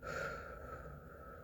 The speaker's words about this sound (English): Take a nice deep breath in. And then breathe out.